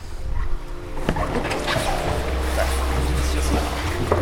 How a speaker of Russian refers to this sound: Сейчас, наверное, самая сложная операция – это непосредственно посадка в каяк. Ну что ж, будем пробовать.